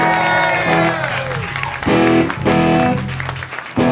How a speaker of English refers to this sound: But anyway, thank you very much for having us here tonight. Give everybody here a nice round of applause. You guys were fantastic.